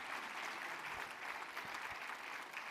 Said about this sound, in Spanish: ¿Usted lo cree? Si usted lo cree, denle un fuerte aplauso y diga, Señor, tú estás conmigo en medio de este proceso.